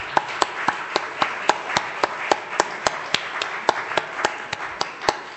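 A church audience at morning worship applauds steadily to celebrate two members' 68th wedding anniversary, a dense wash of many hands clapping with one clapper standing out in a quick, even rhythm throughout. No one speaks.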